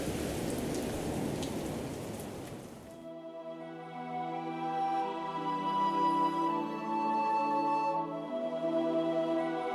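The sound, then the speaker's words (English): A heavy rainstorm hisses loudly for about three seconds, a dense wash of falling rain, then cuts off and gives way to sustained, droning musical tones with no voices. “So, prepare to weather the storm.”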